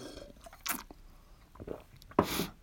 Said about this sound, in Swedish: Två klunkar blev det.